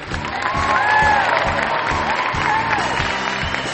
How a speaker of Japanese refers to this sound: まだ事態を把握できずにいた地元の観客は、とりあえず歓声で同意しました。